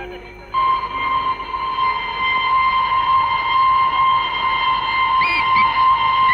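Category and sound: vehicle, train passing with whistle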